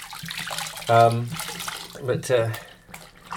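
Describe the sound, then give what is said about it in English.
Old work clothes being hand-washed, swished and sloshed around in bath water, a steady wet splashing throughout, with two short voiced sounds from a person breaking in partway. “Let it soak for as long as you can in the bath.”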